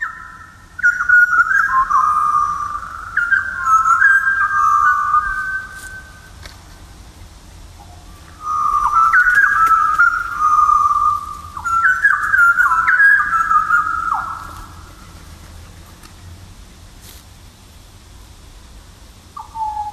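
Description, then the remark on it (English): Rich, fluting pied butcherbird song in two clear phrases, each a series of mellow whistled notes rising and falling, delivered loud with pauses between, over quiet outdoor ambience; recorded in Miramar National Park near Kununurra. “a pied butcher bird recording, this time from Joy Sutton from the Miramar National Park near Kununurra”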